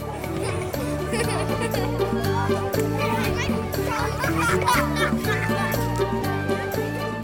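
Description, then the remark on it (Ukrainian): Children play and chatter cheerfully across the whole stretch, a busy crowd of young voices, with steady music running underneath at a moderate, even level. “Їй дуже подобалися діти. Вони були такими веселими та щасливими”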